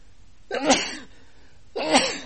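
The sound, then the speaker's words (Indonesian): A person sneezes twice, fairly loud, each sneeze a sharp burst with a short pause between them. No talking. “Alhamdulillah. Yahdikumullah wa yuslih balakum.”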